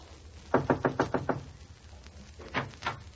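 knocking on a door

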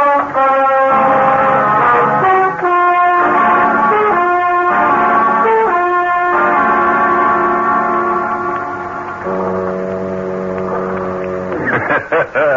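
foghorns sounding

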